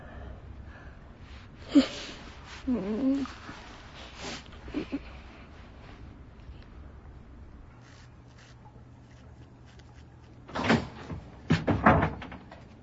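A broken door being locked: scattered clicks and knocks of a latch and handle, a cluster early on, a quiet stretch, then a louder burst of rattling clunks near the end, with no talking.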